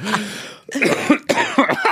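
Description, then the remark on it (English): Several harsh coughs in quick succession, bursting out one after another with a raspy, phlegmy throat-clearing quality, loud and without any talking. “God, we both got those coughs.”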